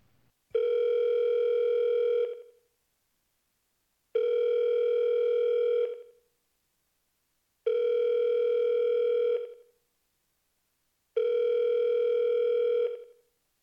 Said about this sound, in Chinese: 您拨打的电话暂时无人接听，请稍后再拨。